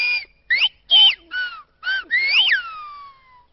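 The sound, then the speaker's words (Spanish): A phrase whistled in Silbo Gomero, the whistled language of the island of La Gomera, meaning 'What is Silbo Gomero?': about six short, high, piercing whistles that swoop up and down in pitch, ending on a longer note that glides downward and fades. No voices. “Acabas de escuchar en Silbo Gomero una frase que dice, ¿qué es el Silbo Gomero?”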